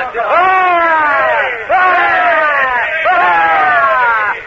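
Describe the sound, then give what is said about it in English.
A group of men give three loud, sustained cheers for their host, the Commodore, in quick succession. Each is a rising then falling shout of many voices together, with brief breaks between them. “Three cheers for our host, the Commodore.”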